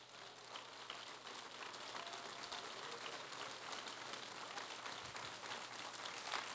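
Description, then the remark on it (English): An audience claps their hands in worship of the King of Kings and Lord of Lords, a dense, steady wash of many overlapping claps that continues evenly from start to finish at moderate loudness, with no voices standing out. “And I want my hands to clap unto the King of Kings and the Lord of Lords. Why don't we do that right now, would you?”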